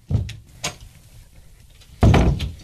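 A door opens with a couple of thunks and clicks, a brief pause, then a louder, fuller rattle and bump as it swings and someone steps through from a hallway.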